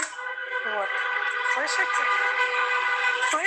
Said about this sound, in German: Ich sitze im Café, ganz in der Ecke, und trotzdem hört man es. Die ganze Stadt dröhnt von den Hupen der Autos. Ich mache jetzt mal die Tür auf, damit Sie es hören. Hören Sie?